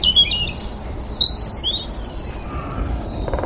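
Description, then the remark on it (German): A European robin sings a run of thin, very high-pitched warbling notes and trills over a steady outdoor background rumble. “Also das Rotkehlchen hat zum Teil ganz hohe Töne drin.”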